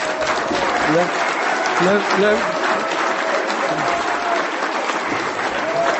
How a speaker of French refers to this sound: C'est qu'en ce moment, dans notre groupe, il y a une personne qui n'a que 4 ou 5 jours d'abstinence. Elle est là avec nous. Alors si au moment des applaudissements, vous voulez applaudir quelqu'un, ça sera elle.